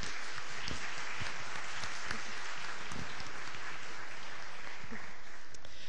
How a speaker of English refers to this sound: And if we could just take a moment to congratulate them and give them a round of applause for their accomplishments.